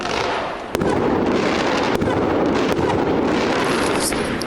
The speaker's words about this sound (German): So, die Fans von Aue haben ein kleines Feuerwerk draußen aufgebaut, um ihre Mannschaft zu unterstützen.